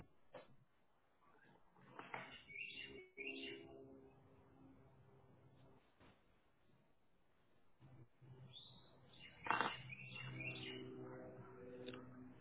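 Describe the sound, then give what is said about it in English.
Backyard birds chirp and call in two brief bursts separated by a quieter stretch, the tones fairly faint, with a soft outdoor background and no talking. “I'm in my backyard. I've got wind chimes and birds.”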